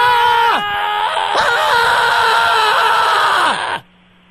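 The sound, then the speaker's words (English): A person screams into a phone line, recording a message: three loud back-to-back bursts, the long final one sustained for a couple of seconds before its pitch sags and it cuts off into near silence. “Please record a scream to share on justscream.baby. Wait for the beep, then hang up when you are done.”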